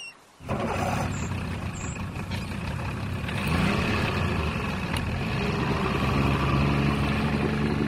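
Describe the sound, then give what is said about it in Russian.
A small motorboat engine on the sea starts up after a brief moment of quiet and keeps droning steadily, a loud, rough mechanical rumble with no voices. “Хотя вообще-то у нас мотор”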